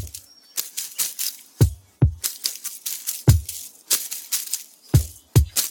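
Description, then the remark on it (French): Soft, dry tapping and rustling in an irregular rhythm, with occasional low thumps among the brisk clicks, crisp, as a musician taps on the trunk and leaves of a bonsai tree fitted with microphones, sampling the sounds to make music; no voices. “Il a mis des micros partout, comme il fait d'habitude, et puis il tapote sur le tronc, sur les feuilles, il échantillonne les sons qu'il obtient, et après il joue avec.”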